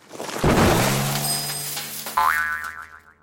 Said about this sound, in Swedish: Hörde du ljudet av en cykel som just välte ner i diket utanför skolgården? Lugn i stormen, det var inget ovanligt ljud som du behöver oroa dig för.